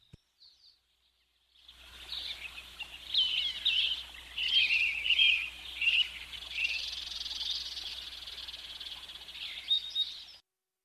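Birds chirp continuously in a dense, high-pitched chorus of overlapping tweets and trills, moderately loud and steady for about nine seconds after a brief quiet start, with a low hum underneath.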